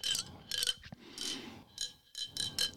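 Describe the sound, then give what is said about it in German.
The closure of a modern lemonade bottle clatters in several quick bursts of bright, clicky rattling separated by brief pauses, with no talking over it. “Also den Verschluss check ich noch nicht so ganz, warum. Damit es schön klappert.”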